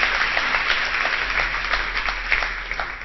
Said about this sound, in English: Wow. I'll take another round of applause. Thanks, guys.